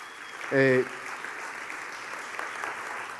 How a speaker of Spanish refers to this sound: Así que denle un aplauso al Señor.